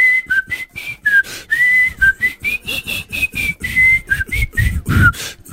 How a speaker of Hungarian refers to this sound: Mondjuk mindig ugyanazt fütyülöd. Hát tehát... azért, mert ez a dal.